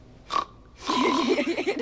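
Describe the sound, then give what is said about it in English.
Someone imitates a man's snarfling snore: a short breathy snort, a pause, then a long wet, rattling, pig-like snuffle with wavering low pitch, fairly loud and alone. “Well, you've been introduced to the symphonic range of his snoring? Yeah, he says it's worse than ever. You know that snarful one?”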